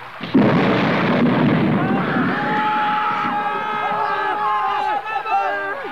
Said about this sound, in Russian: Потом загрохотал гром.